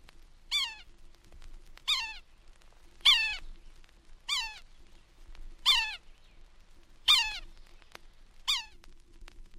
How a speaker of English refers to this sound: Morse code of the yellow-bellied sapsucker is less regular than the drum of other woodpeckers, and its call note is harsh.